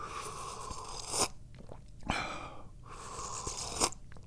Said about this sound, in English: And that's the first sip of tea I've had all day. It's kind of hot.